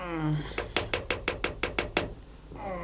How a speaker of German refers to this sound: Der erste Detektiv hatte sich gerade auf sein Bett plumpsen lassen, als es an der Tür klopfte.